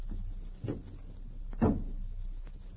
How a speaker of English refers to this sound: Close the door softly.